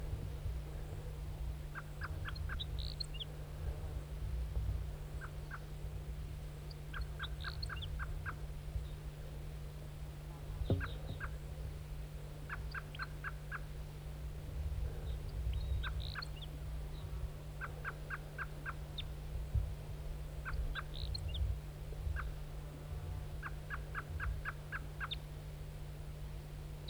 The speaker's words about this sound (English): Wild bird. Wild bird. Here it comes, wild bird.